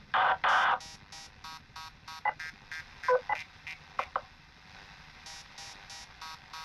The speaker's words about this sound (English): Why are we still getting interference? The beeping? Yeah.